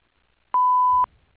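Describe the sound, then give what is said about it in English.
A single steady electronic tone of about half a second, a voicemail answering machine beep, sounds clearly and cuts off abruptly, followed by faint low rumble and near silence. “Please leave a message at the beep, and I'll get back to you as soon as possible.”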